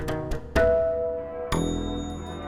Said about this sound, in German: Samstagnachmittag in Deutschland. Die Kirchen läuten den Sonntag ein, rufen die Menschen auf, die Arbeit ruhen zu lassen und den ersten Tag der Woche durch Gottesdienst und Gebet zu heiligen.